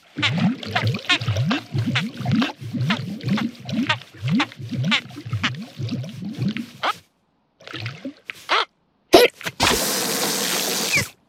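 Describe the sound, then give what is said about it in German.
An elephant drinking lots of water to get rid of its hiccups: a long run of quick, rhythmic gulping and slurping swallows, steady, then a brief pause and a few wet splashy bursts at the end. “Also, viel Wasser trinken hat nicht geholfen.”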